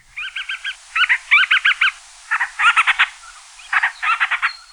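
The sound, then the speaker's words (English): Call of the band-rumped storm petrel, known in Hawaii as the akeake, a seabird: three loud bursts of rapid, squeaky chattering notes, each a quick run of four to six pulses, with short pauses between and no voices. “Today, we've got the call of the ban-rumped storm petrel.”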